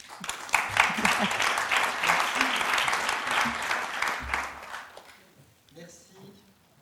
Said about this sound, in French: Merci beaucoup à toutes et à tous. Je voudrais continuer par des applaudissements pour vous.